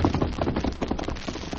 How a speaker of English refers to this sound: they heard pounding hoofbeats approaching from the direction of Benton on the trail above them